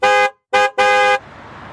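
A car horn honks three times in quick succession, loud: two short blasts followed by a longer one, then fading into low background noise.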